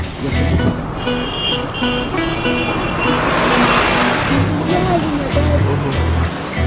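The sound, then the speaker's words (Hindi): A pickup truck drives along with a steady, loud engine rumble and road noise filling the whole stretch, while muffled voices murmur faintly underneath. “Pickup driver गाड़ी रोको, pickup driver गाड़ी रोको।”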